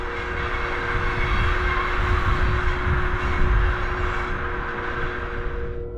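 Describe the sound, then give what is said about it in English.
A train headed back to Mandalay rolls along the rails with a steady, loud rumble and a constant droning hum, heard from inside, continuous with no voices. “And I got on a train, headed back to Mandalay to catch my flight.”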